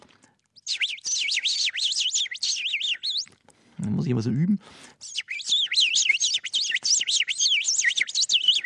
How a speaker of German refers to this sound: Sie haben gerade die Heckenbraunelle erwähnt. Wie geht die? Ja, die ist sehr, sehr schwierig. Ein sehr hohes, quietschendes, eiliges Zwitschern.